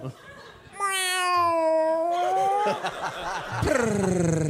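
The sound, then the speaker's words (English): A person imitates a cat's meow: a long, drawn-out vocal meow followed by a second meow near the end, fairly loud, with a brief burst of laughter-like noise in between. “Do we all start doing it? Meow.”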